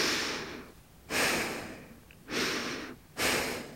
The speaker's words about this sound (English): Shoulders back, creating that large cavern for the breath. And gently starting your breathing in and out through your nose.